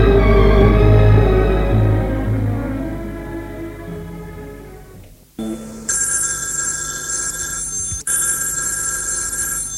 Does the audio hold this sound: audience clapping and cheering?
no